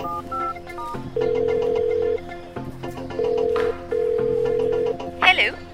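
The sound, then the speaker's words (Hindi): A few short dialing beeps as a number given at the end of a text message is dialed, then a phone ringing on the line: steady ringback tones repeating in regular bursts with short pauses, clear, ending in a brief crackle as the call connects. “Number कहाँ है, ये मैसेज के आखिर में एक नंबर दिया है। हाँ इसको मिलाता हूँ।”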